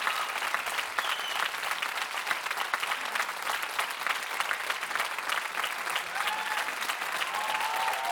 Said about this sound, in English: Okay. Thank you. If you're in the mood for clapping, then there's something I gotta say.